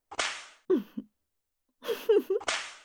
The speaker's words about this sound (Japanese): そーら、あんたが大好きな鞭、もっと行くよ。